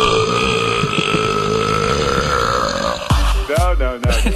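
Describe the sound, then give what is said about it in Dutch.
A long, deliberate burp drones loudly for about three seconds, then breaks into a few shorter, gurgling belches at the end. “En zou ik nog één hele flauw grap mogen maken over boeren?”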